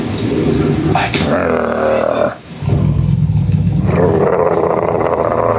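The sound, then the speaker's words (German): A large werewolf growls in a deep, rumbling snarl that swells and pulses, dips briefly into a pause, then resumes in a sustained low roar through the end. “Ja, das Grollen ist schon echt cool.”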